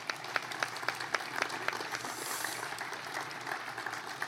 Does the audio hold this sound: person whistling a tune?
no